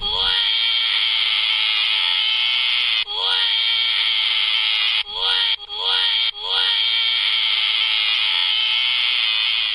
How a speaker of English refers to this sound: They did a lot of crying.